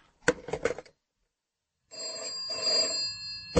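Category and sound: household object, telephone bell ringing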